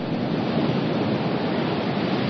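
Sea waves wash in a steady, continuous roar of surf, fairly loud, with no distinct breaks between swells and no voices.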